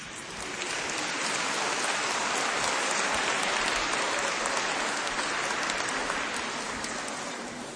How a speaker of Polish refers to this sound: Przygotowuje się drugi nasz zespół, który wraz z nami poprzez pieśni będzie modlił się podczas mszy świętej. Także ich bardzo serdecznie przywitajmy oklaskami.